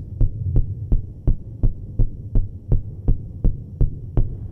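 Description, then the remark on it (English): A dancer's heartbeat, amplified by a special wireless monitor in artist-composer Christopher Janney's work first created in 1981, thumps at a quick regular pace, each beat a sharp pulse over a low, constant electrical hum, with no voices. “That's when he hooked up a dancer to a special wireless monitor that amplifies the electrical impulses from the brain to the heart.”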